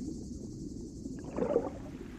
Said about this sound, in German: Mit der aufsteigenden Sonne wird die Saale immer voller. Die ersten Boote schaukeln auf den Wellen. Kanufahrer lachen laut, während Stand-Up-Paddler elegant über das Wasser gleiten.